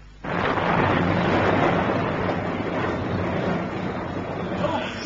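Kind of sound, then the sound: nature, thunderstorm with wind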